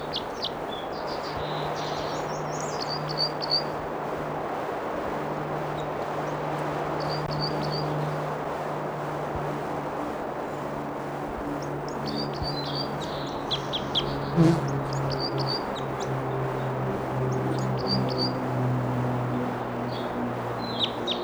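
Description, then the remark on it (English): Short, thin, high-pitched bird flight calls come in scattered bursts of a few notes each, over a steady hiss and a low droning hum throughout. “Flight calls here.”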